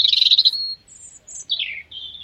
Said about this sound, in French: C'est un rouge-gorge.